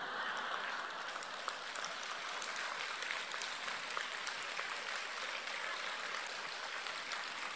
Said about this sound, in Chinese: 谢谢你们的鼓掌，我听的不是这么热烈。好，我台长听惯了上万人的鼓掌，跟你们开玩笑，因为你们的声音啊，虽然小。但是都是用心鼓出来的，就很感动。